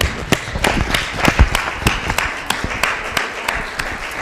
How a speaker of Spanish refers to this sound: bienvenida, muchísimas gracias y sube al estrado, por favor. Damos un aplauso.